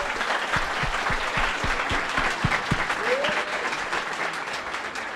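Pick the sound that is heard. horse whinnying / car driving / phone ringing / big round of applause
big round of applause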